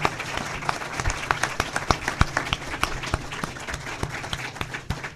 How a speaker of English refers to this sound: Round of applause for these candidates.